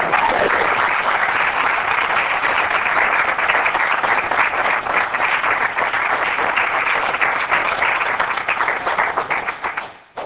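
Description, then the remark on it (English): An audience in the City of Sylvania applauds and cheers the proud parents of an honored student: dense, steady clapping that holds at an even loudness for about ten seconds, then quickly dies away at the end. No one speaks over it. “Thank you for coming and cheering the proud parents.”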